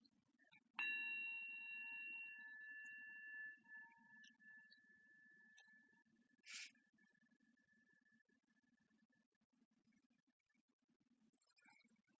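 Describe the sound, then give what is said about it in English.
A small bell is struck once to start a mindfulness practice and rings out clearly, its bright tone slowly fading over several seconds with faint background hum and a brief soft click. “So that's what we'll do with our half hour, okay? All right, so let's start off. The little bell ring.”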